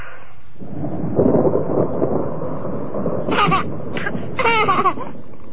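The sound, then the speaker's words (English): A deep, broad rumble of thunder from a storm rolls through, fairly loud and sustained, followed by a few short, high vocal bursts from a small child woken by the storm. “The storm must have woken him.”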